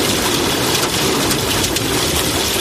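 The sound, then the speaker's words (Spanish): Heavy rain pours down steadily in Valladolid, Spain, in a dense, hissing wash that stays loud and even throughout, with no voices and no distinct thunderclap standing out. “El meeting de Feijóo en Valladolid ha arrancado con retraso por culpa de la fuerte lluvia que ha caído en la ciudad.”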